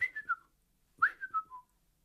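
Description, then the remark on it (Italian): A person at the table whistles two short phrases, each a quick run of three or four notes sliding downward in pitch, separated by a brief pause. The whistling is clear, with no talking. “A tavola non si fischia, parla.”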